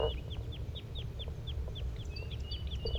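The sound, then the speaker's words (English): A flock of birds gives short, high, downslurred flight calls in quick overlapping succession, with a thin sustained whistle near the end, all over a steady low rumble. “Sounds like the flock is getting restless. They're giving flight calls.”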